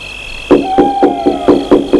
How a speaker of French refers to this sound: frappe à la vitre.